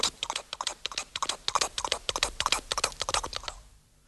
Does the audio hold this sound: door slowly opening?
no